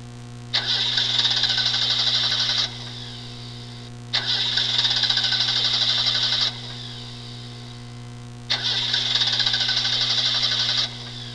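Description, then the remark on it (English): A car engine cranks and fails to start, three separate tries of about two seconds each with pauses between, loud, over a faint steady hum. “Uh-oh, car trouble.”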